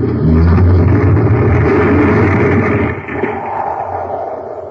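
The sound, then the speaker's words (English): A tunnel car crashes into debris inside a tunnel whose entrance has been blown up, with a loud, grinding roar that holds for about three seconds, then eases into a quieter lingering rumble. No one speaks. “Our tunnel car is going to crash right into the debris.”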